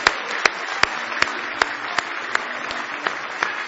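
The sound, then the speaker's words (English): An audience claps in praise, a dense wash of applause punctuated by sharp, evenly spaced louder claps roughly every third of a second, sustained and fairly loud with no talking. “Give him a big hand clap of praise if you love him.”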